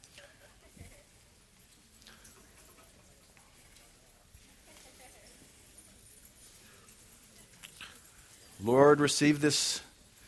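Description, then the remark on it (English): A man speaks quietly, then near the end an audience, asked to take their keys out of their pockets or purses, briefly and loudly jangles many sets of keys at once, a bright metallic shimmer lasting about a second. “Now, if you got keys with you this morning, I just want you to take them out of your pocket or your purse and just hold them.”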